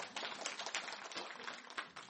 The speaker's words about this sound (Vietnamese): Dạ, A Di Đà Phật, xin quý vị cho đạo hữu một tràng pháo tay.